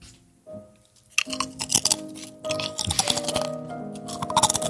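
Loud crunching of crisp Cheez-It cheese crackers being chewed, a series of sharp brittle bursts with brief pauses between bites, no voices.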